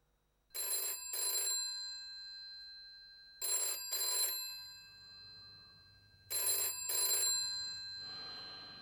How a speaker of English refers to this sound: At home, his telephone rings.